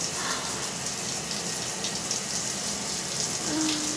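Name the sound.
shower water running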